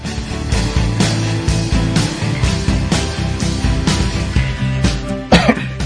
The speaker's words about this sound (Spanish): Perdón, que me había entrado la tos así de momento.